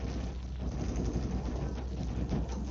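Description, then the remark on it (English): A car engine drones with a steady, low rumble as a fleeing man drives the car away, holding an even loudness throughout with a faint windy hiss on top and no voices. “Wait a minute, listen to that. He's got a car in there.”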